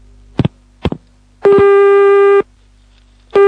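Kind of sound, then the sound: signal or alarm, telephone tone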